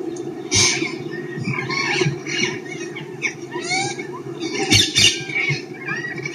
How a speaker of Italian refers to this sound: Da qualche anno è presente anche una colonia di parrocchetti dal collare. Sfuggiti da qualche gabbia domestica, questi animali hanno invaso le nostre pinete, ma anche la stessa Roma.